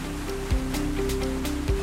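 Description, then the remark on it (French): A water-powered sawmill, built in the mid-19th century on the Grande Eau river just downstream of the village of Vers-l'Église, running on river water: a steady rush of water mixed with a droning mechanical hum, broken by two heavy low thuds. Continuous, with no talking. “Donc là, on est vraiment au cœur de la scierie, on entend vraiment les bruits aussi derrière nous.”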